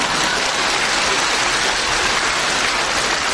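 An audience applauds in a steady, dense wash of clapping that holds at an even level for about three seconds, with no talking over it.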